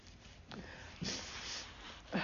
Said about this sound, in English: My son said to me, say, why are you saying you're sorry, mommy? You're allowed to blow your nose. He says, you have much better manners than me. I don't say, excuse me, and I'm sorry when I blow my nose. We're at the kitchen table.